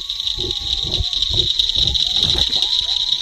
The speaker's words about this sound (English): Coyotes howl and seem to be coming closer. It's beautiful and scary.